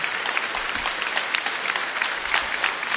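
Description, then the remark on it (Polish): An audience claps steadily, a dense wash of many hands with no clear pauses, fairly loud and even throughout, with no voices standing out above it. “Może, kochani, tylko jak będziemy cały czas klaskać, to nie będzie czasu na modlitwę.”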